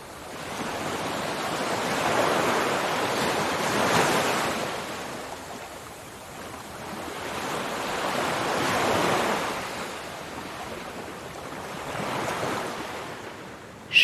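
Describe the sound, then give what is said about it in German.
Ocean waves break on shore in slow, repeating surges, each swelling into a broad hiss and then receding, about three big washes over the span, with no voices. “Den Urstrom des Meeres.”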